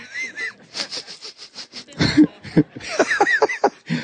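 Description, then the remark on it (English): A person imitates a beagle hound's sniffing with a quick run of about eight or nine short, breathy sniffs through the nose, followed by wheezy, laughing vocal sounds. “we'd sniff like little, like beagle hounds and stuff.”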